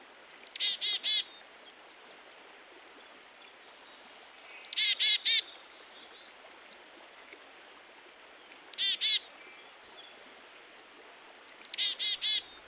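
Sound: black-capped chickadee call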